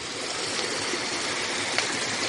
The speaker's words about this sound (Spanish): Pues estas cascadas, estos escalones de agua que salen de la estructura del balneario, pues llevan, conectan directamente 3 o 4 metros al río.